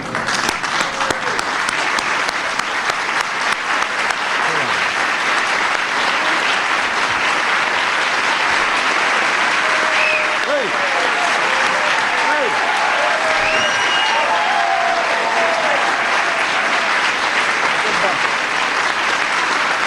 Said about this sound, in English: With that, what I would like to do is invite our honorees to just sit there and let all of us stand and give you a big round of applause.